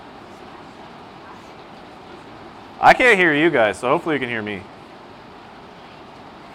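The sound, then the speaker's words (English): Rain falls as a steady, even hiss that never lets up during a Sunday school talk. A man speaks briefly over it partway through, then the downpour carries on alone. “hopefully everybody can still hear me over the sound of the rain.”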